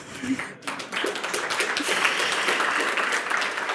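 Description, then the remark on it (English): An audience breaks into applause for a chemical engineer collaborator after a brief opening moment, a dense, steady wash of many hands clapping that holds at a fairly loud level to the end, with faint voices mixed in. “A big applause to chemical engineer Pavel Gurikov for believing in hackers.”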